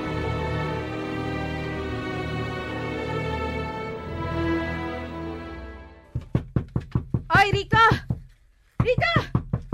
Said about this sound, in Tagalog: Kung makakatok ka ng pinto eh, parang ikaw ang may-ari nitong bahay ah.